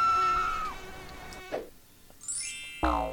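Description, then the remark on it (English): A thin, whining insect buzz like a mosquito, wavering and sliding in pitch before climbing into a shrill high whine, broken by a few short sharp bursts; no one speaks. “Just imagine, instead of being a stupid comment, a microaggression is a mosquito bite.”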